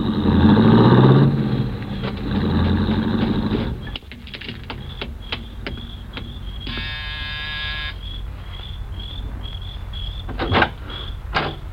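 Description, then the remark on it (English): A rented car's engine rumbles loudly for about four seconds as it drives off in the evening from a home on the edge of town, then drops away, leaving chirping night insects, faint clicks and a brief buzzing tone. No one speaks. “An hour later, he came out and drove off again.”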